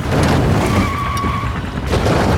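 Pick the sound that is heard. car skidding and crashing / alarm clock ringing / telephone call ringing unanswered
car skidding and crashing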